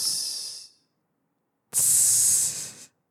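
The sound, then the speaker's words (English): Two hissing bursts from voices imitating a sizzle: a fading one, a brief silence, then a louder, longer sustained hiss, clear with no talking. “We have good sizzling sounds.”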